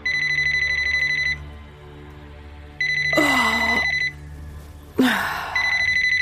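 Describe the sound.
A mobile phone rings in the middle of the night in bursts of bright, electronic beeping, pausing and resuming several times, while a drowsy voice groans and murmurs between the rings.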